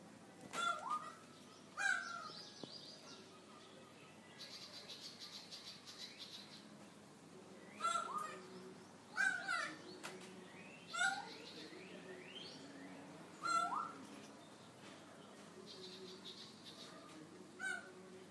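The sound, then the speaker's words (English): A small, fat, brown bird about the size of a palm, called a long beak, gives a series of harsh, scratchy calls, about seven bursts at irregular intervals, clear against a quiet background with no talking. “The bird is the size of your palm.”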